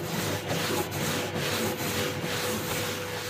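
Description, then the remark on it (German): A steady, loud grinding rasp of an abrasion testing device, where sandpaper on top rubs in circles over the material below, continuous with a faint periodic pulse as the machine turns, and a low mechanical hum underneath; no one speaks. “Das ist ein Gerät, auf dem kreisförmig ein Abrieb stattfindet. Also oben ein Schleifpapier, unten das Material und dann dreht sich das.”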